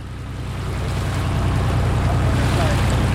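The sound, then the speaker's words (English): Water sloshes and laps steadily against a barge-like tidal power craft moored to a dock in Portland, Maine, a continuous wash with a low, rhythmic churning underneath that holds at an even, moderate loudness. “The barge-like craft moored to a dock in Portland, Maine, looks like some modern version of a sternwheel paddle boat.”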